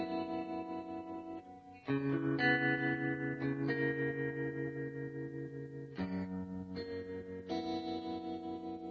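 A band's song intro plays with sustained, effects-heavy guitar chords that shift every couple of seconds, washed in echo and reverb, steady and fairly loud with no voices.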